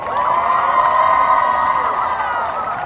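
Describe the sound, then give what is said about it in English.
A crowd at Nickelodeon Universe cheers and applauds loudly and steadily to welcome Minnesota Vikings player Robert Blanton. High-pitched shouts and whoops from many voices, likely young ones, layer over a continuous wash of clapping. “Can we have a Nickelodeon Universe round of applause for Mr. Robert Blanton?”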